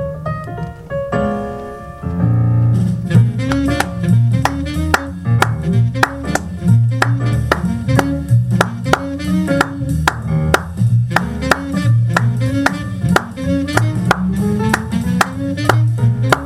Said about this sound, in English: I'm going to first clap along in a 2-3 clave and then clap along in a 3-2 clave, and you'll see both of them work. So first there's the piano intro, and then I'll come in.